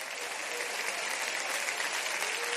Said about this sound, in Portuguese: O aplauso é para Jesus.